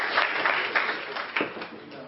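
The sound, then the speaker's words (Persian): An audience applauds participants for bravely coming up to the front, with steady, dense clapping at moderate volume for a couple of seconds, a few sharper claps standing out and faint voices mixed into the noise. “خب تشویقشون کنید که شجاع بودن تا اینجا آمدن.”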